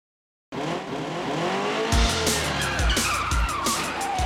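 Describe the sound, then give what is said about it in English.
A car engine revs loudly, with tires skidding and squealing in sharp bursts, like a car racing and sliding around a track. No voices. “This is a car.”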